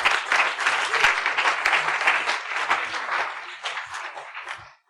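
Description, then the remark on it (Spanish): An audience claps hands for God in a sustained burst of applause, dense overlapping claps with a few sharper individual hits, gradually thinning toward the end. “Vamos a dar unas palmas a Dios.”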